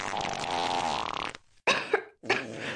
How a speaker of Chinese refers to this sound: 呸呸，姐姐真是的，这股臭味好浓烈啊。 别那么生气嘛，放屁而已，不过是个正常的生理现象，这也无可奈何吧。